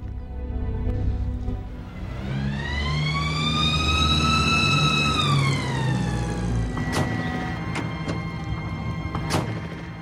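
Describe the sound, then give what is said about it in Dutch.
A police siren wails loudly over the rumble of traffic, its rising and falling tone sweeping up and then fading as the vehicle passes, followed by a few sharp clatters. “Als antwoord hoorden we het geloei van de politie-sirenen.”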